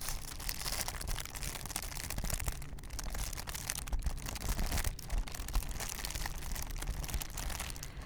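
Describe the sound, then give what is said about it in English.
Tissue paper crinkles continuously for ASMR in a dense, crackly rustle that holds a fairly steady, moderate level throughout, with brief dips in the texture and no voices. “Some crinkles with tissue paper.”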